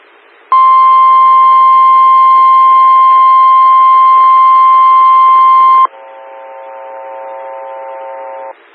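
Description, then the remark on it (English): A loud, steady single-pitched emergency alert tone for a severe thunderstorm warning holds for about five seconds, then switches abruptly to a lower, harsher dual-tone warning that sounds for about three more seconds before cutting off. “Stand by for emergency warning.”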